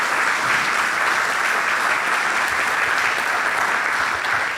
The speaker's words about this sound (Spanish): Y se merecen un aplauso por eso, a ustedes. Siempre a ustedes.